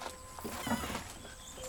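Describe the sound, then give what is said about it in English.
Slow, careful footsteps of a boy crunch over loose gravel along an alley beside a house, each step a soft grinding scrape in an uneven rhythm, with no voices. “Treading carefully along a gravel alley, he finds himself in a courtyard at the back of the house.”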